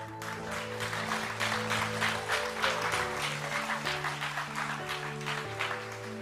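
A morning audience applauds warmly for a musician who has just played, a dense, steady patter of many hands clapping for about six seconds, with sustained low organ-like chords holding underneath.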